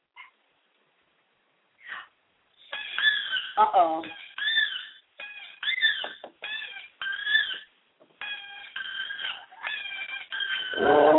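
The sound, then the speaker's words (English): A video recording of a dog howling plays: a run of wavering, high-pitched howls in short repeated bursts that rise and fall in pitch, fairly loud, ending in a stronger low swell. “Okay, I'm going to put on a video of a dog howling, okay?”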